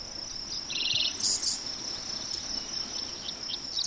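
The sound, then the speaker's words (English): Sparrows and dickcissels sing in short trills and bright chirps over a patch of open prairie in Taylor County, layered on a constant high insect drone, with no voices. “Dick thistles and sparrows sing, and bees land on bright flowers on this patch of prairie.”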